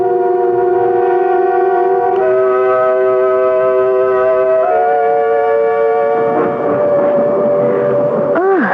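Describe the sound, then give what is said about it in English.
The whistle of a newly coupled locomotive blows one long, loud, continuous blast, its rich chord-like tone holding steady for several seconds before wavering and bending downward at the very end over a low rumble. “That's just the new locomotive hooked up with us at last.”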